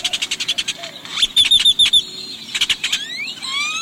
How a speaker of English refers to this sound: This startling voice, one of cracks, clatters, wheezes, squeals, and trills, belongs to a male great-tailed grackle. Picture a very large blackbird, glistening with blue iridescence.